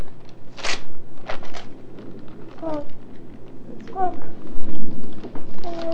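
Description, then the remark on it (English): Wrapping paper is ripped off a package in a few quick, crackly tears near the start, followed by softer rustling while voices murmur and a child's high voice chimes in. “Get all that paper off. Rip that package open.”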